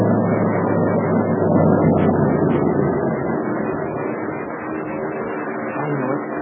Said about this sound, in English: The driver says those are invader planes.